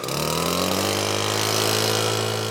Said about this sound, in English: And with that, he fires up his leaf blower and gets back to work.